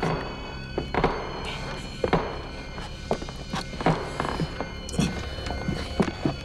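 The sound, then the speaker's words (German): Soft, careful sneaking footsteps of the Three Investigators (Die drei ???) thud at an uneven pace, several sets overlapping as they climb the stairs to the first floor of Ohm's villa, with faint creaks and shuffles over a steady low background hum. “Vorsichtig und mit leisen Schleichschritten betraten die 3 Fragezeichen unbemerkt Ohms Villa und liefen die Treppe in den 1. Stock hinauf.”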